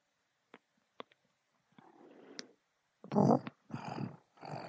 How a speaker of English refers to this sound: Hey, kitty, kitty. Yeah, you're gonna have to hear my kitties again.